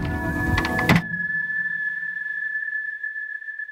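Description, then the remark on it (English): A door swings shut with a solid thump after a second of busy rustling as a crew closes it, and the noise cuts away to near silence with only a faint, steady electrical hum. “We close the door and then it's silent.”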